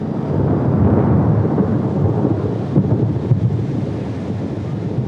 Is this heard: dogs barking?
no